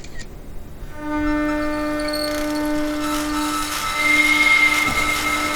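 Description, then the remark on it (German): An old tram's electric motor starts up as the tram slowly pulls away, the electric current audible once the motor begins to turn: a steady rising whine, a stack of sustained harmonic tones over a low rumble, growing louder and brighter with a hissing, grinding edge as it gains speed. “Spätestens wenn der Motor sich anfängt zu drehen, dann kann man den Strom auch hören.”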